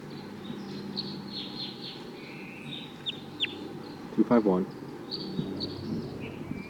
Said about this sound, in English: That wild bird is coming down now.